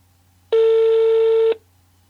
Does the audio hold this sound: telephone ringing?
yes